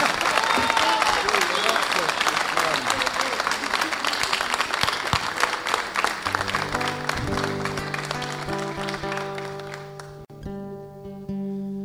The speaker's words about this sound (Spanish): aplauso.